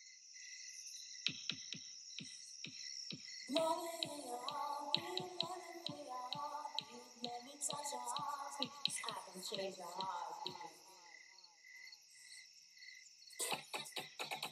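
Crickets chirp in a steady high-pitched drone throughout at the opening of a song, joined by evenly spaced sharp clicks and then a swelling musical bed that plays underneath.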